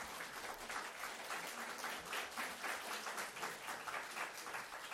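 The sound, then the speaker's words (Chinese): A standing church audience applauds its worship song leaders and accompanists steadily for the full five seconds, many hands clapping in a dense, even wash with small swells in loudness and no one speaking. “我抢每一个嘅大师嘅领诗嘅，即系伴唱伴奏嘅，大家起身，我哋俾掌声佢哋好唔好啊？”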